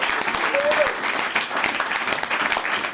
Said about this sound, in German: Dieser Applaus geht von Herzen raus an euch.